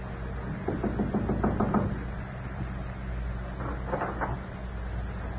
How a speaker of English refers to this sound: It was only when he raised his hand to knock on the door